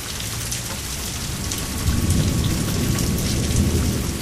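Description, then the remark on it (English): Heavy rain hisses steadily throughout while a low, rolling rumble of thunder swells in partway through and carries on to the end. No voices. “Yeah, you're not sure which thunder roll is associated with that particular bolt.”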